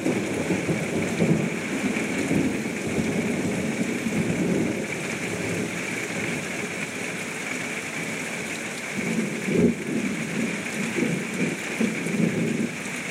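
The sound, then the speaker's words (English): Heavy rain from a summertime storm pours steadily in a dense, hissing wash, heard from under a house porch, with low rumbles of thunder rolling underneath, swelling briefly near the middle and end. No one speaks. “Just thought you guys might enjoy a few minutes of that big rain storm there.”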